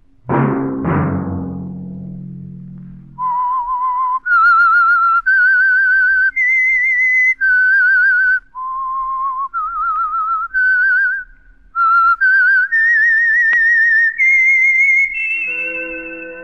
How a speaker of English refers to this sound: Let that whistle be your signal for the Signal Oil program, The Whistler.